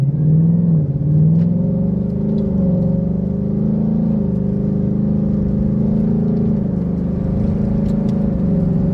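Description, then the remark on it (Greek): A Mustang car engine rumbles steadily at low revs, heard with the windows down: a deep continuous drone with a faint whir on top, fairly loud, with no one talking. “Και γράφεις, ακόμα και με χαμηλές τροφές και κατεβασμένα παράθυρα και να ακούς και τον ήχο του κινητήρα.”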